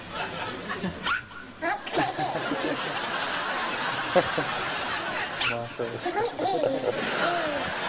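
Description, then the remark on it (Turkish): In a video of two cute little ones, one hiccups while the other laughs at it: several short, abrupt hiccups pop up at uneven intervals over a busy, noisy background, with chuckling, snickering sounds and some voices mixed in. “Bir tanesi hıçkırıyor.”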